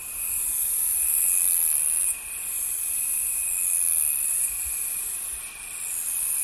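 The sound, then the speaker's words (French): A saddle-backed bush-cricket sings in waves, a shrill, hissing high-pitched buzz that swells and dips gently over several seconds, with a thin steady whine beneath it and no voices. “C'est l'Ephippigère carénée. Donc elle chante en vagues comme ça, c'est très très beau dans les roseaux, dans les petits buissons.”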